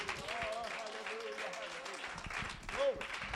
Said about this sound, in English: Hallelujah. Praise God. Let's clap one more time.